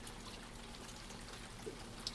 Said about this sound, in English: It is still raining. Funny, isn't it? You say you listen to the rain. You don't really hear the rain at all. You hear droplets hitting things, don't you? Which is a sort of a very variety of different clicks and splashes.